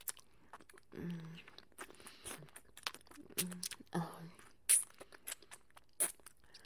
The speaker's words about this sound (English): With every flick of my tongue, you get a little bit dumber. With every suck, you can feel me swallowing those IQ points.